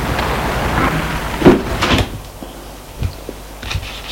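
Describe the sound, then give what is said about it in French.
The door of an apartment building, released via the intercom, clicks open with a short mechanical clack, followed by a couple of fainter knocks and rattles as the door moves, over a low background hum. “Il entend le déclic de la porte, il entre dans l'allée.”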